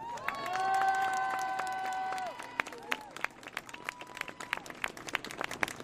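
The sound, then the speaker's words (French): An audience at a gathering applauds itself, breaking into steady, dense applause that carries on throughout. A sustained musical tone rings over the clapping for the first couple of seconds, then fades. “Alors avant de commencer, j'aimerais qu'on se donne nous-mêmes ce qu'on ne donne jamais, presque jamais, un tonnerre d'applaudissements.”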